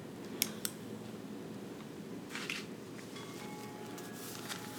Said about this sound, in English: Allowing the sound of the chimes to take you even deeper into your heart, into your sacredness.